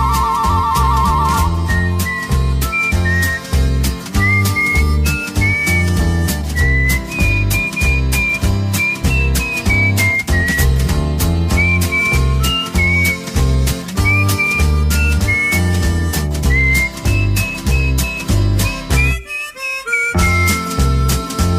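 Someone practising whistling alone in a corner whistles a steady, wandering melody over a loud, busy musical backing, the tune running almost continuously with only a brief break near the end.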